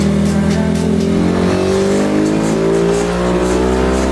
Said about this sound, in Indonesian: Step terakhir, step finishing yang gak kalah penting, kita melakukan setting karburator di atas mesin dyno.